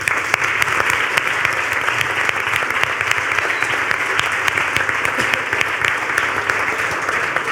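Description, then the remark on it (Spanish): Loud, sustained audience applause, a dense wash of many hands clapping steadily with crisp individual claps popping through, holding at an even level throughout with no voices. “Un fuerte aplauso.”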